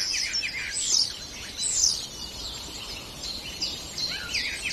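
Songbirds chirp and warble continuously in bright, busy bursts, including a starling, which can mimic many other birds' voices; no voices present.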